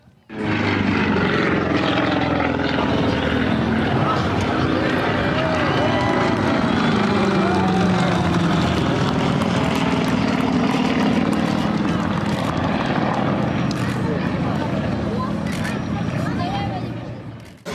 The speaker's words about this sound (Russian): Восторг вызвало авиашоу, которое представили пилоты Одесского аэроклуба на двух самолетах, исполнившие фигуры высшего пилотажа в небе над Хаджибеевским лиманом.